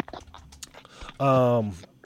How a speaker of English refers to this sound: I hear him scrambling. Well, he's typing. Yeah, I am typing.